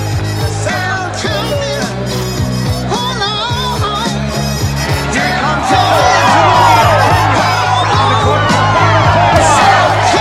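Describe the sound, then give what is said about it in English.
A crowd at a running race cheers and whoops continuously, many voices blending into a dense roar that swells louder partway through, over a steady low droning tone underneath. “Rob pushes through the crowd and does a side flip over the barrier.”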